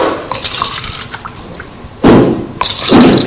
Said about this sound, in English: Okay, now I'm going to add this other water from this glass, and I'm going to pour this whole big glass of water into these two cups.